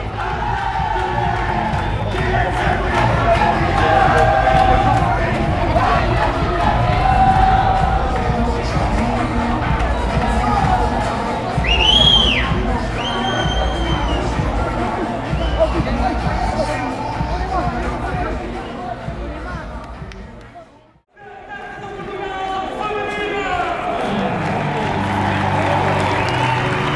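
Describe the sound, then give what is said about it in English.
A large crowd of Racing Power fans chants and shouts together as they enter the stadium, in a loud, continuous roar of voices, with rhythmic chanting, a few high whistles, and a brief dip in the noise before the chanting resumes. “I hope you can hear the entrance of the Racing Power fans making their voices heard.”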